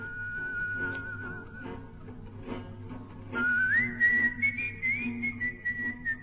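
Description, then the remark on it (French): A single clear whistled melody of a French Resistance song, whistled to get through radio jamming and used as the musical call sign of the BBC programme Honneur et Patrie; slow and mournful, with sustained notes that rise and fall over a low steady hum, growing louder and fuller in the second half. “La mélodie, sifflée pour passer le brouillage des ondes, sera reprise comme indicatif musical de l'émission de la BBC Honneur et Patrie.”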